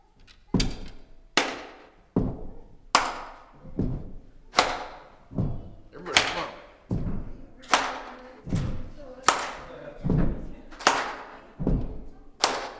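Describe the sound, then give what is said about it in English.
A crowd stomps and claps along to a song in a steady repeating rhythm, heavy low thuds alternating with sharp bright claps, loud, keeping an even beat for the whole stretch. “Everybody here knows how to stomp, right? I know everybody here knows how to clap, because I just heard it.”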